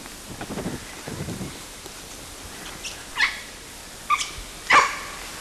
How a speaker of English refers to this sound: First bark was by LB. And then CW gave one bark, but most of the barks were by LB. It's an LB bark.